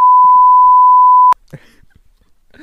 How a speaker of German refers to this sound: Oh, wie geil, dass du den Namen immer wieder rauspiepen musst.